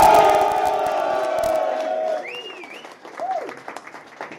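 A crowd bursts into loud, dense applause with cheers and whoops, the clapping fading after about two seconds into scattered claps and a few high whistled or yelled calls.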